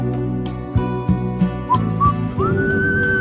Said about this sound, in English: That's because I'm blowing. I got to learn to suck whistle.